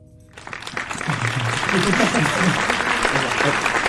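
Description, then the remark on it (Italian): An audience breaks into applause for the actor of a film shot in one night, swelling quickly from near silence into a dense, steady roar of clapping with some voices mixed in, staying loud to the end. “Un applauso anche a lui.”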